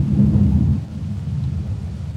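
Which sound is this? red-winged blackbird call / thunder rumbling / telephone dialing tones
thunder rumbling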